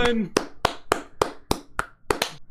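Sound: hand clapping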